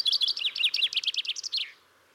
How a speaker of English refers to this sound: So when you hear it, it may not sound exactly like this recording. And that's because chaffinches actually have regional accents. Yes, it's actually the case that chaffinches in different areas have slightly different songs from each other.